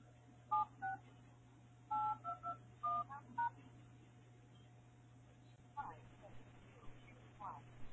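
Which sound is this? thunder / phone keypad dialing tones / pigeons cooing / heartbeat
phone keypad dialing tones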